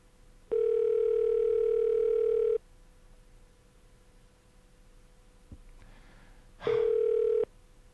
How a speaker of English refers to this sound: Okay, we have a ring. We have a ring. Could we do it? 56, 57, 58, 59, 1 minute. If nobody picks up the phone, of course, they're not going to win.